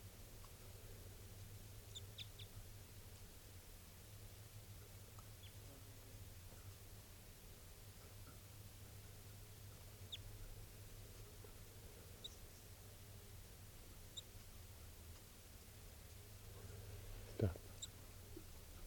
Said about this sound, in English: It's a male. He's coming down. Pointed at the bird. He's looking down. Chitter there.